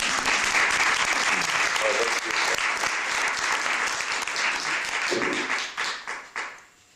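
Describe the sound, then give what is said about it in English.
An audience breaks into sustained applause for an Army veteran's service to the nation, dense overlapping clapping at steady volume for several seconds before it tapers off and fades near the end. “You can all applaud.”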